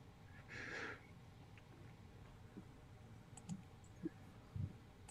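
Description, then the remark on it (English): Faint, sparse computer mouse or keyboard clicks, a few short taps spaced irregularly against a quiet background hum, with a brief soft rustle near the start and no one speaking. “I'm clickety-clickety-clicking.”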